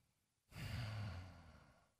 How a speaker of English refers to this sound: Sorry, I just snored into the microphone. Apparently. You've done that a bunch of times.